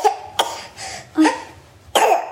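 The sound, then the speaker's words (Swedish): A young boy coughs several times in quick, harsh bursts, fairly loud, with short pauses between the coughs and no talking. “Vi är mycket tacksamma för att vår son kan hosta.”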